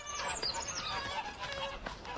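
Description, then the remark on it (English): A flock of geese by a lake, startled by a noise, honking over one another in a busy, overlapping clamor as they take off, fairly quiet. “Startled by a noise, the geese fly off.”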